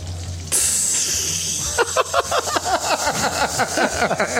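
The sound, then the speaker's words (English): A sudden hiss bursts in and settles into steady frying sizzle, like bacon hitting a hot pan, soon joined by dense, rapid crackles and pops that continue to the end. “That just sounds like somebody dropped another piece of bacon into the pan.”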